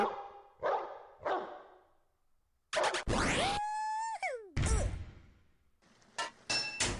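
A dog in a pipe-fitting video game barks three times in quick succession, followed by loud metallic clanging, a falling electronic whistle and bright chiming game tones, with no one talking.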